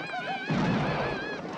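A horse whinnies with a high, wavering cry while a dense rumble of galloping hooves and commotion rises underneath, fairly loud, continuing steadily to the end, as a rider beside a river spurs the horse into a gallop.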